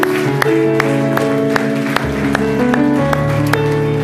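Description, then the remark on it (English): An audience gives God a hand clap of praise, clapping along in a steady rhythm, sharp loud hand claps about twice a second over sustained keyboard or organ chords. “And would you give God one last hand clap of praise?”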